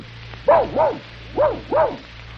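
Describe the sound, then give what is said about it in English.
Pluto the dog barks four times in two quick pairs, loud, with a short pause between the pairs, wishing Donald a Merry Christmas, over a faint steady low hum and no talking. “Now, Pluto, you stick your paw up here, and then you wish Donald a Merry Christmas.”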